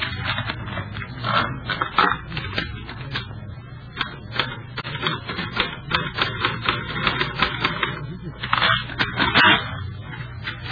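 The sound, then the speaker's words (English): Rapid, irregular mechanical clacking of a typewriter being typed on, steady for the whole stretch, with a low hum underneath and no talking. “And there's a typewriter.”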